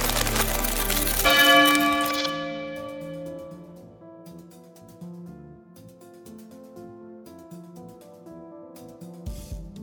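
A large iron bell is struck once with a loud clang, its rich metallic tones ringing on and slowly fading over several seconds. No one speaks.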